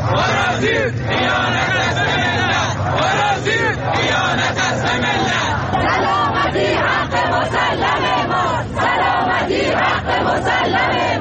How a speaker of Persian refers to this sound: تعدادی از شما مخاطبان گرامی برای ما عکس و ویدیو فرستادید که در این قسمت از برنامه به قسمتی از اعتراض مردم شیراز در رابطه با انتشار پارازیت گوش می‌کنیم.